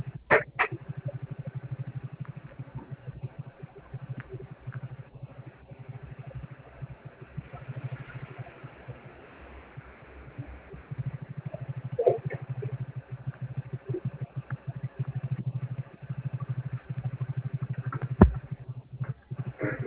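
A motorcycle engine idles, a steady low throbbing rumble that runs for the whole stretch with a few sharp clicks and rattles scattered over it. No one speaks.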